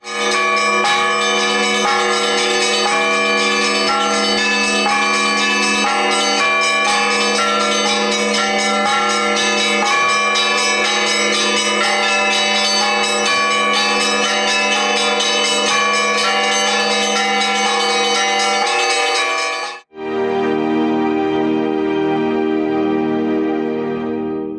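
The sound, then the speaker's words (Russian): Church bells peal loudly and continuously, many overlapping ringing tones layered close together. Near the end the sound cuts abruptly to a lower, sparser ringing pattern. “Спасибо вам большое, ребята, за ваш рассказ, где мы узнали очень много о колоколах и о колокольном звоне.”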